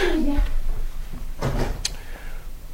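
A door thuds shut, followed by a short sharp metallic click of a lock being turned, over a low background hum.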